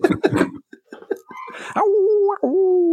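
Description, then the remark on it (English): Dogs named Chuck and Jiffy give a few quick yips and whimpering whines, then break into a long, steady howl that holds for over a second, rising slightly and wavering near the end. “Listening to my dogs. Shut up that damn dog.”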